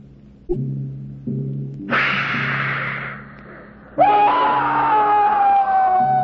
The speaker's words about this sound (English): I hear a violent roar and hissing sound, but see nothing. Look yonder through the trees. By the crown of Jupiter, the dragon!